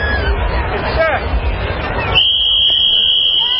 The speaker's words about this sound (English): President Biden blowing the whistle to kick off the annual Easter egg roll at the White House.